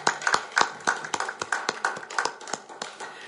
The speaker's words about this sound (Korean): 네, 오늘은 주님 탄생의 날이기 때문에 주님께 먼저 우리 감사의 박수를 올렸고요. 또한 주님을 주신 아버지 하나님께도 모든 감사와 영광을 올려드렸습니다.